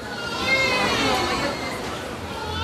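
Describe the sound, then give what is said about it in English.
A crowded maternity ward in the Philippines, overflowing with hundreds of new mothers in the late afternoon, hums with overlapping newborn cries and wails, several babies at once, steady and moderately loud, with indistinct voices murmuring underneath. “nothing prepared me for the sight of a maternity ward overflowing with hundreds of new moms.”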